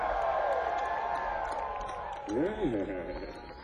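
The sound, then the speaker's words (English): A live crowd in Bear Creek at night, steadily growing bigger, cheers and murmurs steadily, with voices whooping and one loud, wavering shout rising out of the noise partway through. “And as the crowd steadily gets bigger, ladies and gentlemen, if you don't know, it's all good.”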